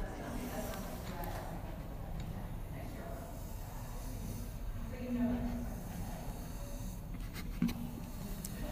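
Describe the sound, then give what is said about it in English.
Soft ASMR makeup brushes sweep and swish in a steady, breathy rustle that lasts throughout, with a couple of brief faint tonal blips partway through and no talking. “No, it's some makeup brushes.”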